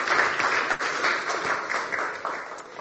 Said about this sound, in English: Yes, let's give him a round of applause.